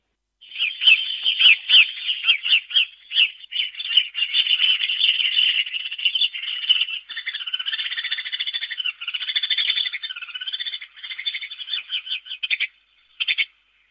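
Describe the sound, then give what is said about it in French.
Sparrows chirping in a busy, continuous stream of rapid, high chattering notes, steady, with a brief pause and a final burst of chirps at the end. “Bon, vous aurez compris, hein, tout le monde a déjà vu des moineaux, ça part un peu dans tous les sens.”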